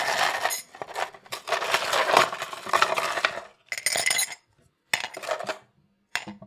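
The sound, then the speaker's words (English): Ice cubes clink and rattle into a cup in a dense, bright burst of hard clattering, followed by a few shorter bursts of clinks separated by brief silences. “And I've got my ice.”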